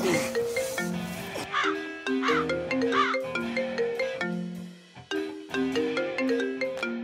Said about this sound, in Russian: Телефон звонит. Подними трубку хотя бы.